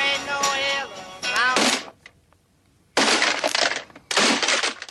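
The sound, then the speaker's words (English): An alarm clock rings briefly with a ringing, tonal alarm, then after a short pause come two loud crashes as it is smashed and breaks apart, in a clip from the film Groundhog Day with Bill Murray. “A clip from the film shows a young Bill Murray smashing an alarm clock as he wakes up again on the same damn Groundhog Day.”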